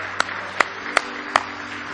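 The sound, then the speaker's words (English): An audience claps in praise of the Lord at night, four sharp, evenly spaced claps at a steady beat over a continuous low murmur of background noise, with no one speaking. “Give the Lord a big hand clap of praise tonight if you love him.”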